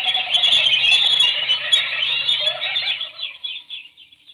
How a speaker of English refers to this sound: The birds.